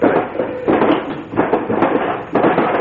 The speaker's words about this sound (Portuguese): Vamos retirar a gaveta do tocador.